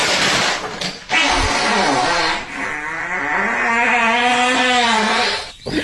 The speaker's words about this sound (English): That's a fart, boys.